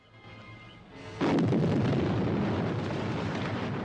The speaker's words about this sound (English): The explosions illuminate the explorers and the jungle behind them. Somber-faced, Professor Challenger gazes at the fires burning high above.